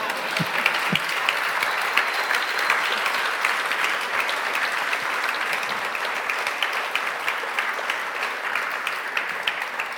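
Steady audience applause after a candidate for mayor of the municipality of Amel finishes his statement keeps going for the whole stretch, a dense crackle of many hands clapping at an even, fairly loud level, with no voices heard over it.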